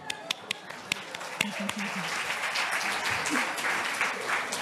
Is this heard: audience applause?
yes